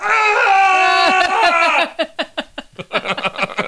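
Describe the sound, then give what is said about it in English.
A loud, sustained high-pitched scream holds for nearly two seconds, its pitch wavering and sliding, then breaks into a rapid series of short, choppy vocal bursts. “Scream real loud.”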